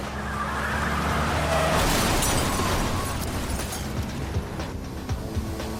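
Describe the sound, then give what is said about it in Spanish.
A loud burst of gunfire from a car that pulls up beside a man driving through South Jamaica, Queens, hitting him in the arm and back, rings out over a heavy roaring rumble, followed by a few sharper pops toward the end as the noise slowly fades. “recibe un disparo en el brazo y en la espalda.”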